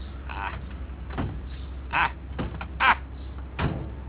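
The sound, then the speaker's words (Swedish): A door is pushed and shut repeatedly, giving several short thuds and rattles spaced about a second apart, over a steady low engine-like rumble. “Försöka stänga den här jävla dörren här.”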